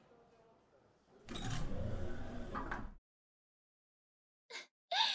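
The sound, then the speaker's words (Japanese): A shop's automatic sliding door glides open as a customer leaves after paying, with a loud, steady mechanical whir lasting under two seconds, then cuts off into silence before two short, bright bursts of sound. “ともなく自動ドアを出るだけね。”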